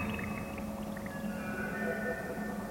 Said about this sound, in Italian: Fra rocce e travi spezzati scorre dell'acqua.